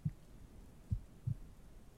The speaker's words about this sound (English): Pressing you against my chest. Oh, that's it, little mouse. My chest makes for some great pillows, doesn't it? Perfectly soft for you to lay your cute head against. Can you hear my heartbeat like this?